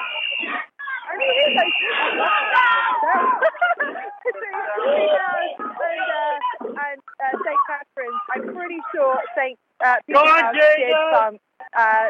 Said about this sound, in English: We've got, I do believe, it is St. Catherine's coming around the corner now. Oh, there are whistles being blown. There are whistles being blown. And that is the team.